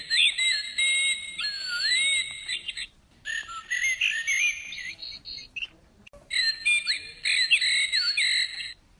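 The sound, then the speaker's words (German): A nightingale sings in rich, varied phrases of whistles, trills and rapid warbles, delivered in three loud bursts separated by brief pauses, clear with no talking. “Ich glaube, eine Nachtigall.”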